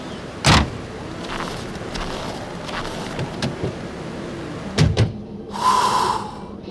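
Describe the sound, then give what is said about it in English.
On a freezing day, people get into a car: a car door shuts with a heavy thud, followed by quiet shuffling, then two more thumps in quick succession and a brief whirring hum, like a car starting up or a window moving. “Let's read it in the car.”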